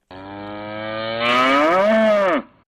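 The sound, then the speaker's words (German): A cow in an advertisement gives a single long moo lasting over two seconds, starting as a steady low drone, then swelling louder and bending upward in pitch before dropping off at the end. No one speaks. “Was die Kuh in der Werbung verkündet, bestätigen auch Fachleute.”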